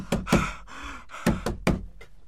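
Peter knocks on the door of the house of Mary, mother of John called Mark, in Jerusalem: loud solid knocks, a pair of raps, a short pause, then three more in quick succession, ending with a faint final tap. No voices.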